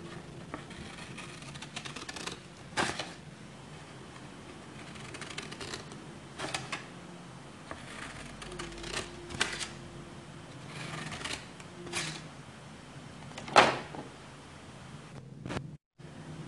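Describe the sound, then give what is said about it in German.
Scissors snipping through paper in a series of crisp, irregular cuts with soft rustling between them, one sharper louder snip near the end, no voices. “jetzt hier verschiedene Sachen, die ich jetzt einfach einmal schneide, weil die alle einen anderen Sound machen, okay?”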